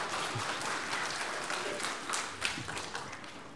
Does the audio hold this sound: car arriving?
no